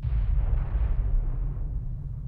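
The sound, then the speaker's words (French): A loud explosion at a cannon on the Rocher aux Oiseaux, set off when a spark fell into the barrel beside it; a deep, heavy rumble that rolls on and slowly fades over a couple of seconds, powerful, with no voices. “Puis là, what a goddamn d'explosion.”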